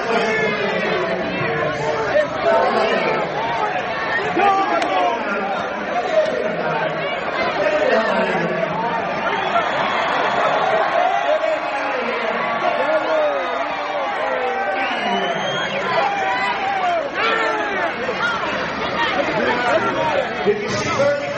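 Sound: crowd chanting and shouting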